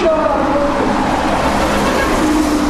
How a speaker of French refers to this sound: Quand je remonte l'avenue Bagramian, dans son flot de circulation incessante, ses boutiques lumineuses et ses supermarchés modernes ouverts 24 heures sur 24